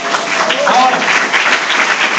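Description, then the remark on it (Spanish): A crowd applauds steadily, a dense, even wash of many hands clapping at once with no break, staying loud and sustained for the whole couple of seconds. “¿Se merece un fuerte aplauso, sí o no?”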